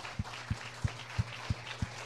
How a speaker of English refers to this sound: Give a clap to the Lord Jesus. Dale un gran aplauso al Señor.